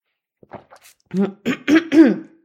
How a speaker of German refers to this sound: So, hoffe, es ist jetzt gleich besser. Ich huste nochmal.